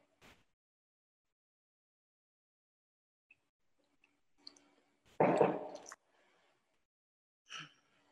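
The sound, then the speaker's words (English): Someone sips water: faint clicks and small mouth sounds, one louder wet slurp lasting under a second, then a short breath afterward. “Just going to take a sip of water.”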